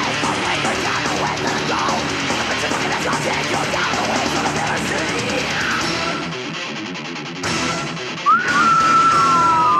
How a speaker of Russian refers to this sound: Пробило на свист.